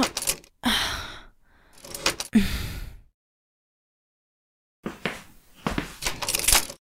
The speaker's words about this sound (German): Der Schlüssel passt nicht. Was? Er passt nicht richtig ins Schloss. Ich kann ihn nicht rumdrehen.